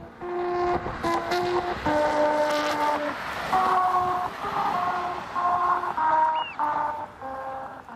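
A car drives over a musical road, the vibrations of its tyres droning out the national anthem as a slow melody of buzzy, sustained notes that change pitch every second or so, over a steady rumble of road noise.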